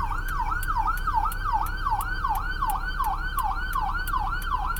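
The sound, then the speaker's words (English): An ambulance siren wails in a rapid, repeating up-and-down sweep as the ambulance passes a four-way stop, loud and steady over low road rumble, with sharp periodic chirps layered on top. No one speaks. “And I'm sorry, there's an ambulance coming by. Let me wait for this guy to go by.”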